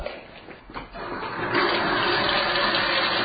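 Tap water rushes and splashes steadily into a drinking glass for an experiment, starting with a few uneven gurgles before settling into a loud, continuous pour. No one speaks.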